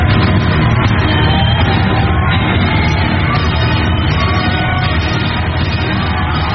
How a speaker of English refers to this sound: standing ovation and a round of applause can we all welcome Reverend Dr. Julius Omomo.